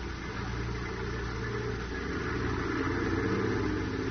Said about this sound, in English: And in the prison yard, a large tarpaulin-covered supply truck moves out as the heavy gates open.